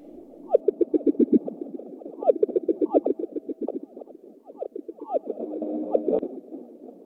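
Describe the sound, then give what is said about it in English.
A simulated ocean sound made by scientists at NASA: dense, bubbling chirps and swooping warbles pour out continuously, fairly loud, with gurgling bursts rising and falling throughout and no voices. “it's actually a simulated sound of what some scientists at NASA think the oceans”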